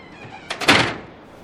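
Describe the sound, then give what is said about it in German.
A door opens and shuts in one quick motion, a short whooshing slide that ends in a soft thunk, with no voices around it. “Wo ist denn hier die Tür?”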